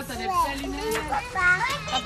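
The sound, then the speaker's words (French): Several children's voices shout and chatter from a caravan at the fair at the end of the boulevard du Midi, at school-leaving time: high-pitched and lively, in a continuous overlapping stream with some sharper cries rising above the mix. “Une roulotte d'où proviennent des cris d'enfants et devant un groupe de femmes, de mères, c'est l'heure de la sortie des classes.”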